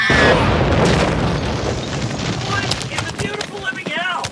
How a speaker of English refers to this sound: Did you guys see that horse explode?